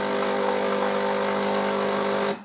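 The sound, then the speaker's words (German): A fully automatic coffee machine brews coffee with a loud, steady mechanical drone and a low tonal hum, holding even for about two seconds before cutting off abruptly. No one speaks. “Und morgens um 4 ist es nur ein Knopfdruck. Und der Kaffee ist da.”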